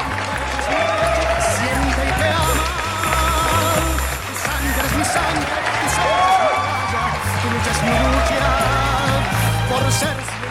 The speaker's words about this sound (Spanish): Aplauso, aplauso.